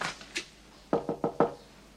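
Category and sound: household object, knocking on a door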